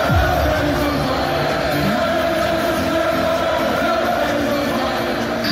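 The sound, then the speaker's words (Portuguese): A huge stadium crowd of football fans at the Euro championship sings a chant together, a dense wall of voices holding a repetitive melody, loud and steady throughout with a roaring, echoing background. “pode até subir o som se puder aí tocar. Will Griggs on fire.”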